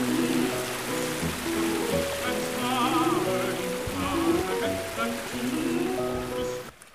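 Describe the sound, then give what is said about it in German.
Steady rushing and splashing of water as someone wades through a cold alpine stream near Grünau im Almtal, fed straight from the mountain. Continuous for several seconds, with a melodic tune playing over it before it cuts off. “Ja, also ich gehe jetzt durch den Bach selber und er ist schon kalt.”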